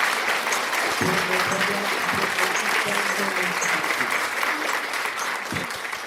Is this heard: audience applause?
yes